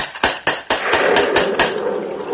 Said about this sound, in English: Oh, yes, yes, the gate. Here's the knocker.